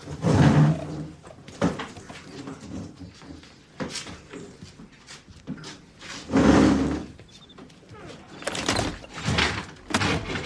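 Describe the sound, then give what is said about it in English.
A door opens and closes several times, producing a series of irregular, fairly loud thuds and rattles, with brief quiet gaps between them. “I'm gonna fix that fucking door.”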